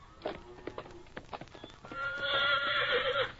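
Hooves clip-clop in a quick, uneven patter, then a horse lets out a loud, shaky whinny that lasts over a second, with no talking.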